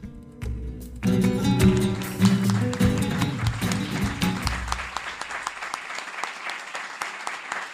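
An audience bursts into loud, sustained applause with dense clapping that gradually thins out toward the end, leaving scattered individual claps as it fades.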